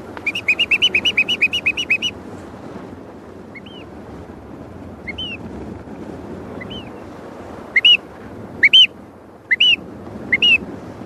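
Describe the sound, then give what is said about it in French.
A rapid series of about ten high chirps opens, followed by scattered short whistled contact calls from a flock of birds answering one another at varying distances over a low rumbling background, each call signalling that the flock is there. “Alors en fait, c'est juste des signaux. Dès qu'un émet un son, les autres disent « la troupe est là ».”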